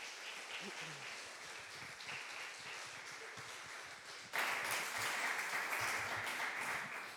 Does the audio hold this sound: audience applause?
yes